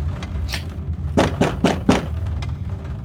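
Four quick, evenly spaced firm knocks on a door, preceded by a single softer tap, with a low steady background hum and no voices.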